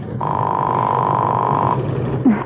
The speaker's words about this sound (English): It's ringing.